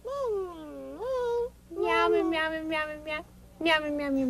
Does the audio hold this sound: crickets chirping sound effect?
no